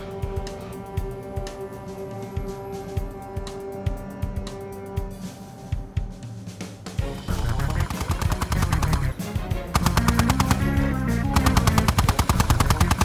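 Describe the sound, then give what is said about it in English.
Rapid bursts of machine gun fire, from a gun on a tripod set up at a vehicle's back hatch shooting at pursuers, rattle over a steady engine drone, growing denser and louder into a sustained, continuous volley in the second half. “You're moving around too much, I'm not hitting them.”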